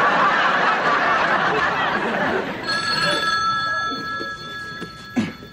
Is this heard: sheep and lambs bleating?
no